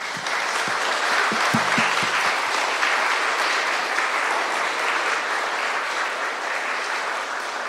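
A church audience applauds to thank departing children's Sunday school teachers, a dense, steady clatter of many hands clapping at an even loudness, with a few faint voices briefly murmuring underneath near the start.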